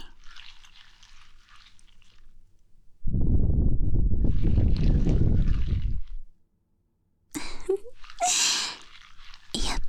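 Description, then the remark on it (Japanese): Soft breath is blown into the ear: faint airy exhales, then a long, full gust of rumbling breath for about three seconds, followed by shorter breathy puffs. No one speaks. “先生の魔法の吐息、気持ちいい？”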